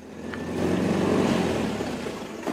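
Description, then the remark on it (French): A truck engine rumbles, its low drone swelling and then easing off, with a short sharp knock right near the end and no voices: trucks from neighbouring communes arriving at the prosecutor's office in Butare in 1997 to unload prisoners taken from municipal cells. “Des camions venant des communes avoisinantes déchargent les détenus extraits des cachots municipaux.”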